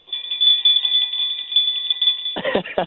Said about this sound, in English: I know what's on your mind. You're playing Jingle Bells.